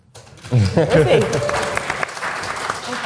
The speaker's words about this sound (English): Give him a cheer.